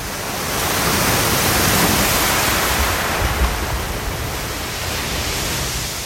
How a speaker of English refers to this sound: And a couple of your submissions feature California, starting with the crashing waves at Point Lobos near Monterey Bay